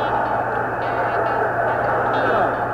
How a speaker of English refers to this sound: Listen at this crowd.